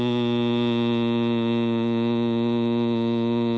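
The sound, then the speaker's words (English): A single steady vocal hum from a person who has taken a deep breath, held at one low, even pitch for several seconds, clear, with no talking and no break in the tone. “The sound hum, for example, resonates mainly in the lungs. And again, the way you make it is you take a deep breath. Hum.”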